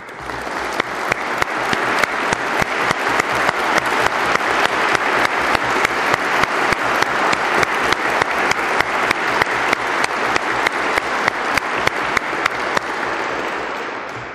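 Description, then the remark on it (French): Sustained audience applause for a vice-president asked to stand, a dense steady wash of many hands clapping that holds at an even loudness for about fourteen seconds before tapering slightly at the end. No voices are heard. “Je vous prie, monsieur le vice-président, de bien vouloir vous lever et d'accepter nos applaudissements.”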